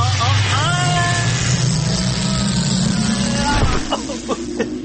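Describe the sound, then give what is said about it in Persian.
A dense, whooshing rumble with wavering tones that sweep up and down, a sci-fi time machine travel effect, running loud and continuous for about four seconds before breaking into brief flutters. “خب بریم ببینم امروز این ماشین زمان چه بلایی میخواد سر ما در بیاره. برو بریم.”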